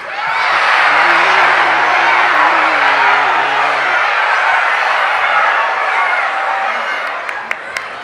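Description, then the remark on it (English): A large crowd of people screech and shriek together in imitation of monkeys, a loud, dense, sustained wall of voices that holds steady for several seconds before thinning out near the end. “And then they would screech just like the monkeys.”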